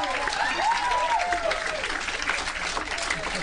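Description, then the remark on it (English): An audience applauds, a dense, steady wash of clapping that holds for the full few seconds, with a few sliding cheers or whistles rising above it near the start. “I won't question what you guys deem worthy of applause, but I just won't.”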